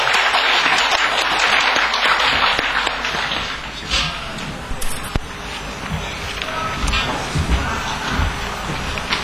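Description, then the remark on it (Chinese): An audience in Wenzhou claps loudly and steadily to welcome the keynote speaker, a dense wash of applause that stays strong throughout, with a few thumps and rustles mixed in as it carries on. “我们掌声欢迎。”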